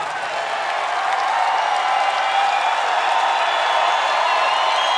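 A live audience at a band's show bursts into sustained applause mixed with cheering, a dense, steady wash of clapping that stays loud and even across the whole stretch, with no one speaking over it.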